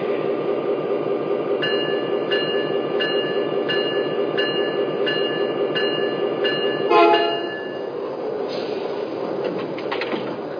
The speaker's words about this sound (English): driving from Chicago on track 1, train number 12, the Grand Canyon.